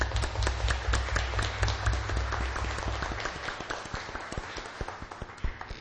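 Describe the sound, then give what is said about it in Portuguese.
A crowd applauds the children's initiative in coming with their teachers, a dense patter of many hands clapping, steady at first, then thinning into fewer, sharper individual claps toward the end. A low rumble underlies the first half. “E aproveitar, vereador, uma salva de palmas pela iniciativa das nossas crianças.”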